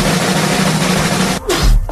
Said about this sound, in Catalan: Jesús. Un estornut teu, a més a més. Sincronitzat.